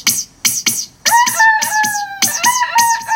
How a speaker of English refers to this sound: What are you doing, Mr. Rooster?